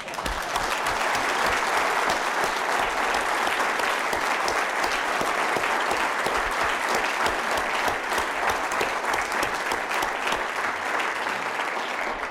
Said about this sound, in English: So I thought I would improperly do it now on behalf of all of us to say we have enjoyed immensely. You have been warm, you have been wonderful, you have been efficient, and maybe all of us should give the organizers an absolute complete applause now.